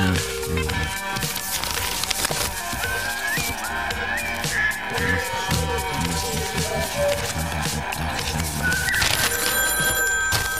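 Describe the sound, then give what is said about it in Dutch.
A telephone rings insistently with a bright, jangling bell tone amid a busy, cluttered background that stays steady in loudness throughout. “ik wil geen telefoon binnenkomende telefoontjes hebben. Die telefoon staat hier alleen maar in het kader van mijn rubriek.”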